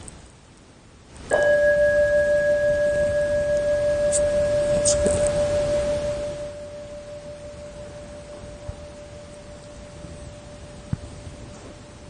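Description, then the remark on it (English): A large bell is struck once, shortly after the solstice, with a loud, sudden attack, then rings on as a steady low hum with a higher overtone, fading slowly over about ten seconds. A voice briefly speaks. “would you give us a nice sounding of the bell, the big bell?”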